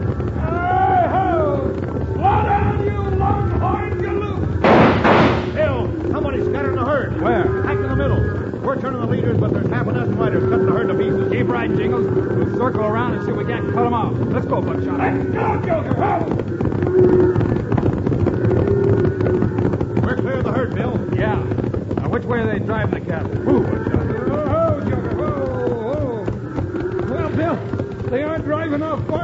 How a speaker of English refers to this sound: Jingles are surprised by a sudden stampede started by a volley of shots. With the trail boss Scotty, they swing their horses in front of the galloping herd, hoping to turn it before they're trampled under the thundering hooves.